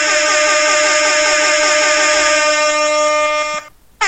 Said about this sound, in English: Extended air horn, because New Orleans is just a different team when Drew Holiday and Tyreek Evans are there.